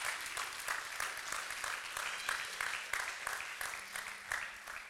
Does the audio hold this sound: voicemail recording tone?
no